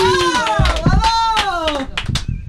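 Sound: applause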